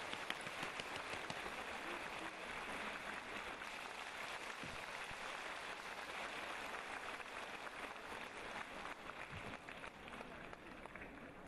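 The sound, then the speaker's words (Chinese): Sustained applause from a large audience welcoming Lu Junhong to read totems on the spot: a dense, steady wash of clapping that stays loud and even for about twelve seconds without fading, with no voices standing out above it. “现在让我们用最热烈的掌声恭请我们尊敬的卢军宏台长为我们当场看图腾。”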